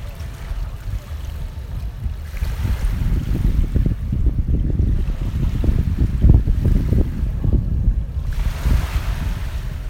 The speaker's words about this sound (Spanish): Estamos en Isla Mauricio, en una hamaca, bueno, cada uno en una de ellas, esperando a que nos traigan algo para beber, en arena blanca en la playa, y se escuchan las pequeñas olas que vienen.